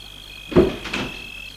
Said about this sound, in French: Il ouvre la portière de la voiture.